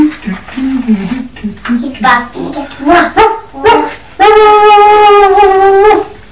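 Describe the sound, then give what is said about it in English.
A person mimics a dog with a run of yappy barks and whimpers, then holds a long, steady howl-like note, loud, with no other talking. “Dog! Excellent!”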